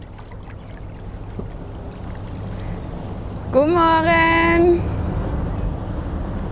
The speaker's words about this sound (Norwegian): Hurtigbåten Helgøy Glimt på vei ut fra Sørbukken, en av småøyene i Ryfylkebassenget. Båten er i rute.